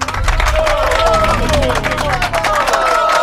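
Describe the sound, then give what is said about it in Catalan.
A crowd bursts into loud, sustained applause with dense rapid clapping, mixed with excited cheers and high shouting voices that rise and fall throughout, energetic, for spelling-contest contestants from Institut Can Planes of Barberà del Vallès and Institut Can Roca of Terrassa after both spelled the big word correctly. “Per tant, aplaudiments, crits, xerinola, confeti, globus i de tot per vosaltres, concursants, perquè ho heu fet molt i molt bé, i us haig de dir que la paraula d'avui no era fàcil.”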